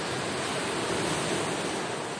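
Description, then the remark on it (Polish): A steady, full-bodied roar of sea surf, a broad wash of noise that holds constant without distinct breaking waves, with no voices present. “To szum morza oczywiście.”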